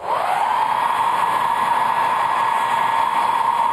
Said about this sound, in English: Blow dryer.